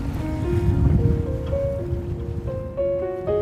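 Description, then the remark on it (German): A ferry crossing to Hailuoto, a sand island in the Gulf of Bothnia, on a sunny summer day, churns through the water with a steady, loud low rumble of engine and waves, while sustained tonal notes shift in pitch over it. No one speaks. “Nach etwa 15 Kilometern erreiche ich die Fähre.”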